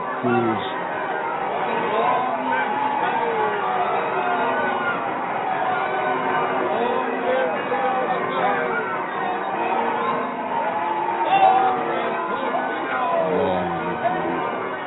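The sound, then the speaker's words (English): A restless rabble in the Ave Maria Hour radio drama about Saint Leo III babbles and murmurs continuously, many overlapping voices forming a dense, steady din with occasional louder shouts rising out of the noise, swelling briefly near the end. “Listen to that rubble.”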